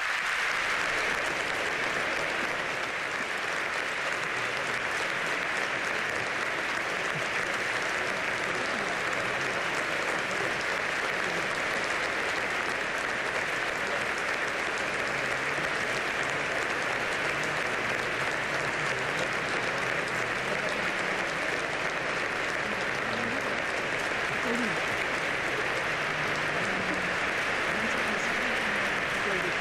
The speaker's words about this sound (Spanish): doncs acompanya ja al cardenal i es posa, en aquest cas, a la seva dreta, i rep aquest aplaudiment fort de tota l'assemblea de la Sagrada Família. Podem escoltar-lo.